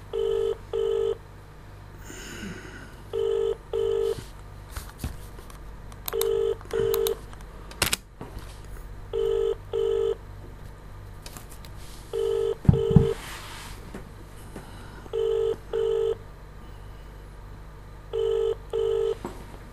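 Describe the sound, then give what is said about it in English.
A telephone ringback tone repeats its double 'brr-brr' pulse about every three seconds, roughly seven times, heard down the line while waiting for an answer, with faint background noise and a couple of soft clunks. “pick up the phone now then.”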